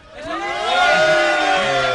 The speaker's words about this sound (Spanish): Uy. Ya escuchamos aquí a la gente gritar.